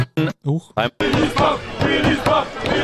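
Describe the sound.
Three short, loud shouts ring out, then a packed crowd in Willis Pub in Bad Nauheim, Hessen, takes over on the FFH pub tour: dense, overlapping chatter and raised voices forming a steady, lively roar.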